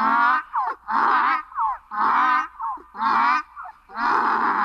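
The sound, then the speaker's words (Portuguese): A donkey brays loudly in a rough, repeated hee-haw, with harsh drawn-out blasts alternating with shorter wheezing gasps, about five cycles in a steady rhythm and no voices. “Quando me viu, foi murchando as orelhas, mostrando os dentes e começou a relinchar.”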